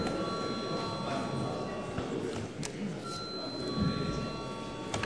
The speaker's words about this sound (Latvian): Paldies, lūdzu zvanu.